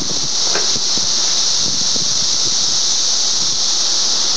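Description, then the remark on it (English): A steady, dense high-pitched buzz of many cicadas in the trees out front, heard near a breezeway, drones on without a break, loud and unchanging, with faint low rustles and scattered knocks underneath. “Doesn't seem to augment the cicada sound. There seems to be a lot of them in the trees here out front.”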